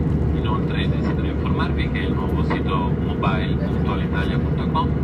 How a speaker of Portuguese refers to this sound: Um avião a descolar da Sicília oferece vista privilegiada para o Mediterrâneo.